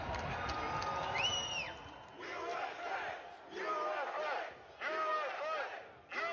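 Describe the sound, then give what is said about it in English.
A large crowd at a Trump rally roars and shouts in repeated loud surges as an ad hoc march steps off and the crowd surges east, chanting "We love Trump!", voices blending into a dense din with a few higher whoops rising above it. “There's a crowd surge heading east.”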